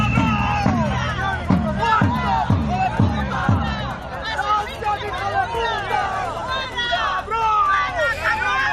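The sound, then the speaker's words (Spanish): A loud crowd from several groups protests the visit of Spanish Prime Minister Pedro Sánchez to the Torrevieja desalination plant in Alicante, Spain. They shout and chant, with rhythmic collective bursts at first, then a dense, overlapping mass of raised voices, jeers and whistles continuing steadily throughout. “Visita ayer del presidente del gobierno Pedro Sánchez a la desaladora de Torrevieja y este fue el recibimiento por algunos colectivos.”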